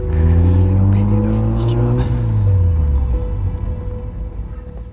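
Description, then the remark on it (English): A car engine roars loudly, revving hard as the vehicle speeds away to follow a truck, its pitch climbing and then dropping over a few seconds. “Just stop talking and follow that truck.”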